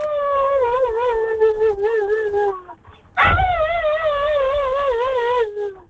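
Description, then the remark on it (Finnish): A person imitates a husky, producing long wavering howl-like whines in two drawn-out phrases separated by a brief breathy pause, loud, with no other voices. “Eläinkaraokessa olemme jälleen ja tänään matkitaan sitten haskia.”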